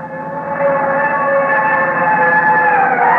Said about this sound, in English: Shorty, where's that fire engine going?